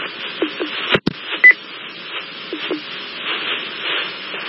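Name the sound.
telephone dialing tones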